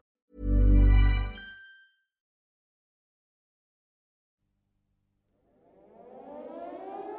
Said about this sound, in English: Late in the evening, on the 17th of August 1943, the air raid sirens at Peenemünde began to sound.